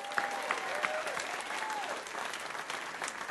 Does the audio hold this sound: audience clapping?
yes